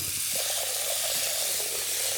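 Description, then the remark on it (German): Tap water pours steadily into a pot in a home kitchen, to be boiled on the stove, a continuous bright hissing rush with a slightly resonant, hollow gurgle underneath, fairly loud. “Wassermarsch.”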